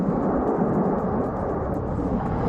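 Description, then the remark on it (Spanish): A steady, dense roar of advancing, very fluid lava (magma), recorded a short distance away, with continuous crackling of branches being swept away and the bubbling of boiling lava running throughout at an even loudness, with no voices. “pues es el sonido del avance de un magma muy líquido grabado esta misma mañana a poca distancia.”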